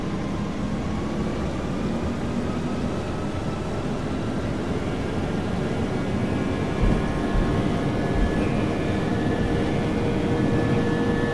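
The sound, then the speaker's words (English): A steady, loud jet-engine roar as an airliner accelerates down the runway, with whining tones slowly climbing in pitch as the engines build power. No one speaks. “Eighty knots. These will actually take off this time. V1, rotate.”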